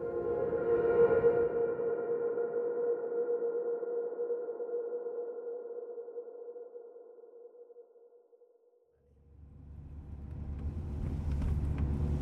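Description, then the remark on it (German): A sustained humming drone fades away, then the low, rumbling engine noise of a dark SUV driving through the narrow streets of Tetouan in northern Morocco swells up over the last few seconds, with no voices. “Er manövriert seinen dunklen SUV durch die schmalen Straßen Tetuans im Norden Marokkos.”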